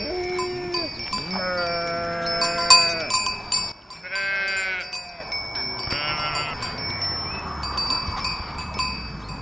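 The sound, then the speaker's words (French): Several sheep of French breeds, including Bizet, with long wool and black noses and ears, bleat in overlapping, wavering cries, one after another, while bells clink steadily in the background of an outdoor flock. “C'est quel genre de race de moutons ?”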